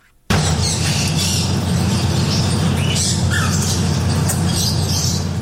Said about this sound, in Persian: ۱۱۰ پرنده زیر یک سقف با مشتریان. ابتکار جالبی که از سوی مالک یک چایخانه در بنکاک پایتخت تایلند صورت گرفته. انواع کناری ها با رنگ های مختلف، توتی های ناطق و چند نوع پرنده در این چایخانه دیده می شوند.